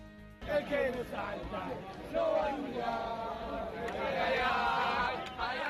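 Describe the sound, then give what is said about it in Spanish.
Thousands of River fans celebrate their team's fourth Copa Libertadores at night in the Puerta del Sol, with dense overlapping shouts, cheers and chanting voices forming a loud, continuous roar that swells and stays busy throughout. “Miles de personas han festejado durante toda esta noche la cuarta Copa Libertadores conquistada por su equipo.”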